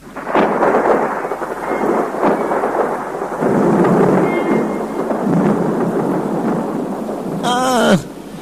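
Steady, heavy rain pours throughout with a low rumble of thunder underneath, and a brief high-pitched cry slides downward just before the end.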